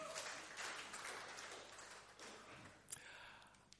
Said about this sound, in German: Vielleicht mal ein kleiner Applaus für unseren Goliath heute Morgen.